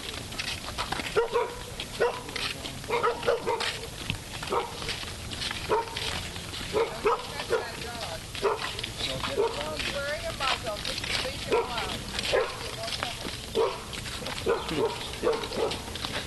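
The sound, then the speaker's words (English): A dog wearing a muzzle barks repeatedly in short, sharp bursts across the whole stretch, steady in rhythm, with people's voices murmuring underneath. “She says, don't touch the dog, it's wearing a muzzle.”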